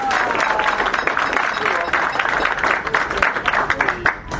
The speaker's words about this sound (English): And so first of all, I just want to give him a wonderful round of applause.